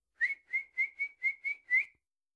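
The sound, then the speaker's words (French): A kettle whistles as a grandmother boils water in it, a shrill, steady-pitched tone sounding in seven quick, even pulses before stopping. No voices are heard. “Grand-maman fait maintenant bouillir de l'eau dans la bouilloire.”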